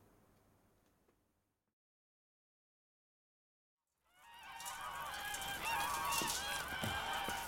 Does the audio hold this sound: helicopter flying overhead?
no